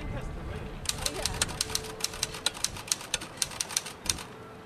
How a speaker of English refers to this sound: The typing comes in spurts.